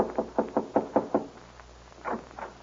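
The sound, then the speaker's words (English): Knocking on the wooden door of a lamp-lighted ranch house at night: a quick, even run of about six raps, a short pause, then two more softer knocks, with no voices. “Al, who is always elected to do the dirty work, is voted to knock on the door and make the necessary speech.”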